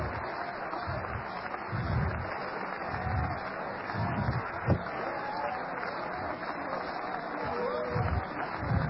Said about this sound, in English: Come on, clap your hands and praise the Lord. We're going to have to work on this. We need to have church around here tonight. Come on, clap your hands.